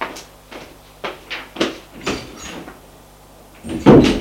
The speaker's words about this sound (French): En claquant la porte.